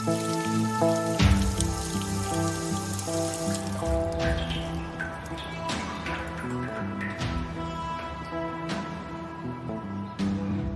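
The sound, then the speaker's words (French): A rain shower: steady rain falls with scattered drops pattering, a dense wash of sound heavier in the first few seconds, with sustained musical tones running underneath. “Ceux qui aiment se balader dans le Jura savent qu'ils courent le risque de rentrer trempés par une averse.”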